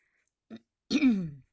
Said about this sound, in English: Clear your throat if you need to, like I just did.